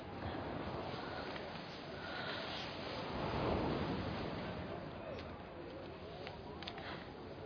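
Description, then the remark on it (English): Continuous rushing waves of the Sea of Propontis with a gentle swell that builds to a peak midway and then eases, mixed with a soft wind-like hiss, steady, no voices. “Sea of Propontis.”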